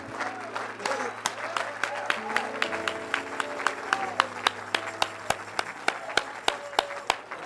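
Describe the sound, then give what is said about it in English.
An audience applauds with hand claps for Jesus, scattered at first and then settling into a loud, steady rhythmic beat, with sustained tones and murmuring underneath. “Let's give Jesus a great big hand clap.”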